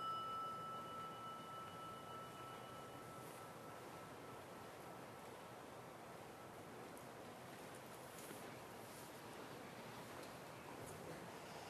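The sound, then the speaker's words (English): Steady rain falls in a soft, even hiss that fills the whole clip, with a few faint, thin tones fading out during the first few seconds. “It's nice when the rain comes in just at the right time.”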